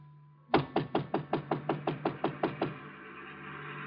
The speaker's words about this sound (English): I got to Chinook's and it was closed. I knocked on the door.